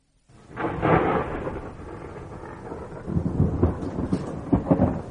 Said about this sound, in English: The storm broke just after Bess got Sue into bed.